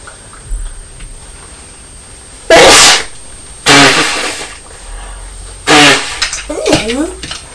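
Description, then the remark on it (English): Three loud sneezes from a mother burst out about a second or two apart, each a sharp explosive blast, followed by brief soft vocal sounds from a person. “No, it's big sneeze.”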